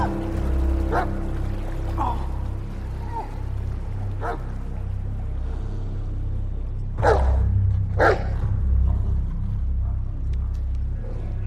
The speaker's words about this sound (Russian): Собака убегает.